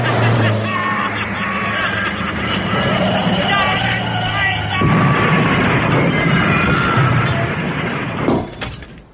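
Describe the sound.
A supercharged car engine roars loudly and steadily as it speeds toward the listener, rising in intensity, with a harsh burst partway through and voices mixed in over the din.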